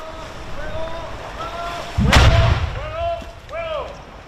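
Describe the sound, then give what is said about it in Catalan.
A single deep, rumbling underwater explosion booms out, followed by a low roar, over breezy open-air ambience with birds crying before and after: an 81 mm mortar bomb detonated in the water a few metres from the shore of Cala Blanca beach by a Spanish Navy diving unit. “L'artefacte ha estat desactivat a les 12 del migdia per la unitat de busseig de l'Armada Espanyola, que l'ha fet explosionar dins l'aigua a pocs metres de la vorera, on s'ha pogut veure i sentir aquesta explosió.”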